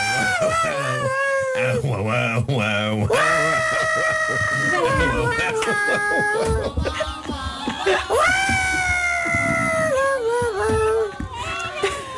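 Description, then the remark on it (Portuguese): A person imitates a dog howling, drawing out long, wavering cries that slide up and down in pitch, loud and continuous alongside singing for the whole stretch. “tu vais fazer o cão, a voz do cão, ok?”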